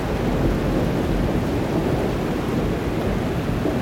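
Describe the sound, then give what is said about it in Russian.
A heavy downpour pours onto a deserted street, roaring steadily and loudly throughout, a dense, unbroken wash of rain noise with a deep rumbling low end and no voices. “Он стоял совершенно неподвижно, ни на мгновение не отрывая взгляд от щедро поливаемой дождем безлюдной улицы.”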